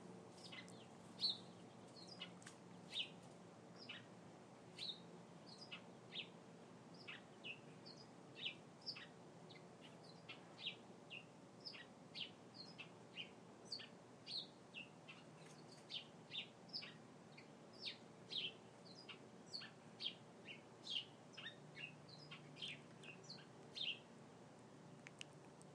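Birds call outdoors in a steady stream of short, high chirps and tweets, many overlapping, over a low constant hum. No one speaks.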